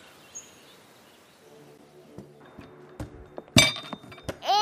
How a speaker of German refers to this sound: Jetzt hast du dir die Schublade auf den Kopf geknallt.